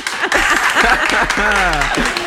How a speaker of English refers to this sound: I wish I had this audience with me everywhere I go when I make a good decision on a sale item. Trader Joe's 2 for 1. The clapping.